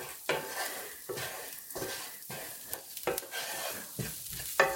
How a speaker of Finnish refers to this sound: Inkiväärit, kurkumat, chilit, kanelit, kuminan siemenet. Täältä kaikki nousee öljyn seasta. Oh, miten hyvä tuoksu.